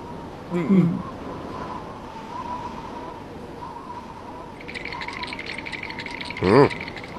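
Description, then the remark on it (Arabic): Teeth chattering of a very frightened sheriff, a rapid, steady rattle of tiny clicks that builds up during the second half, with a couple of brief vocal sounds before and at its end. “هذا الصوت صوت طقطقة أسنان، ولكن لا يوجد معكرونة كي أضعها بين أسنان.”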